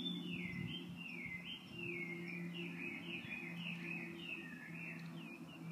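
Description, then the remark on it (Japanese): Small birds chirp continuously outdoors in a series of quick, sweeping high-pitched notes in the morning after heavy rain and strong wind have stopped, over a steady low hum with no talking. “鳥さんの声がね、綺麗だからちょっと外に出てきました。聞こえるかしら。”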